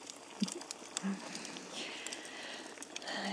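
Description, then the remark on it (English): Heavy rain pours steadily outside at night, a dense, even hiss of drops with occasional sharper taps standing out, heard softly from indoors throughout. “It's a funny night, isn't it? Pouring with rain outside.”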